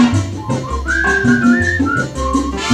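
A person whistles a bright, wavering melody line over a steady musical backing with a bouncing bass and light rhythmic beat, the whistle clear and prominent throughout.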